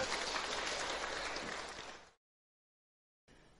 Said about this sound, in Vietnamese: một lần nữa chúng ta dành cho một tràng pháo tay nữa đi ạ.